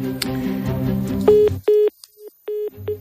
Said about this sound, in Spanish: Estábamos colgando el teléfono.